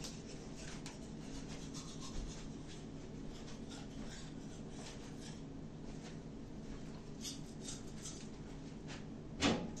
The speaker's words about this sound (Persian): بذارید آقا من دندونم بشورم بعد صحبت کنم.